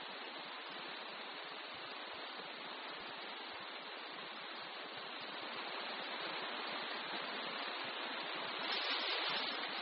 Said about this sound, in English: It's wonderful if you're a duck. It's it's horrible downpour, but, you know, I don't really mind shooting at it once in a while because you can't always pick when you might have to shoot.